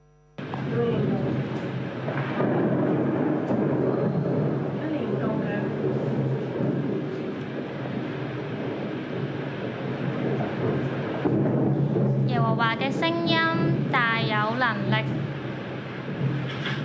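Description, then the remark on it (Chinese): Loud, heavy thunder rolls and rumbles almost continuously for over fifteen seconds, close and overpowering, with a few voices crying out near the end. “之後都有另外一條片，就是網上聲稱是最驚嚇，驚訝的雷電的。”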